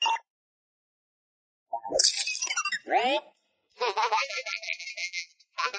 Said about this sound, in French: L'avion est en position, mais il est couvert de glace et de glaçons. Le robot essaye de faire tomber un glaçon avec un balai.